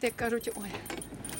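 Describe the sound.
A bunch of keys jangles and clinks against a lock in quick, irregular metallic bursts, with a brief murmur of a voice at the start.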